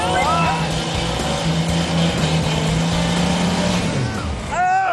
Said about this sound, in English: He's got the advantage of a fresh stretch of track, but he needs to push that engine. Go! Go! Put some fire under that engine.